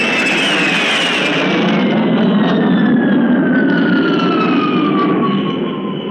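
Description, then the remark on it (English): A Canberra, Britain's first jet bomber, just after take-off, turns and dives at an airfield at high speed and flashes low over a crowd, its loud, steady rushing noise filling the air as a high whine slides downward in pitch while it sweeps past. “And now Britain's first jet bomber. And here comes the Canberra, which has just taken off, turning and diving at the field at high speed.”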